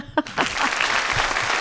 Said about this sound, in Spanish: Un aplauso, por favor, para ella.